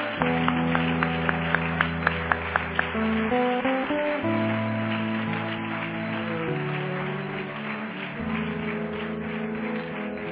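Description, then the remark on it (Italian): An audience claps and applauds the Lord steadily over sustained keyboard or organ chords, with a few sharp, evenly spaced claps standing out at the start before the applause blends into the music. “Facciamo un grande applauso al Signore, perché questa è la realtà.”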